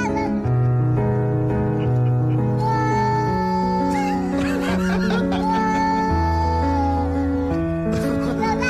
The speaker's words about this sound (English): Singing cat for Christmas number one. I'm predicting it now.